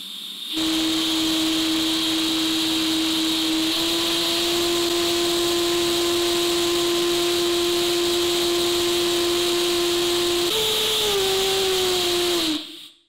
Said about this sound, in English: The engine did run, but it ran on hydrogen. And in my book, that's cheating because, well, everything runs on hydrogen.